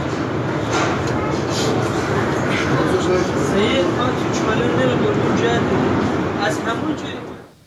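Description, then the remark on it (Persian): Steady, loud rumble and rattle from inside a moving train carriage in Iran, where a wheelchair user whose wheelchair is outside the train struggles to move through the carriage while two passengers come to help. Indistinct voices murmur throughout before the noise fades out at the very end. “ویلچر فردی بیرون قطاره و خودش به سختی در حال جابجایی در قطار برای نزدیک شدن به ویلچرش که دو نفر از مسافران به کمکش میان.”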